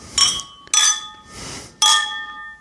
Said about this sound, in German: Und dann würde ich sagen, stoßen wir an auf das neue Jahr. Ja. Prost, Prost.